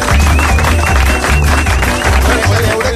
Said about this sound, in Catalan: Mereixen, sí, i és una feina poc reconeguda. Sí. Per tant, un aplaudiment als talladors.